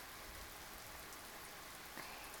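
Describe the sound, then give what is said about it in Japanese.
Steady, dense rainfall, growing heavier again, hisses across the whole clip, a constant wash of drops pattering on surfaces with no voices. “雨また強くなってきた。”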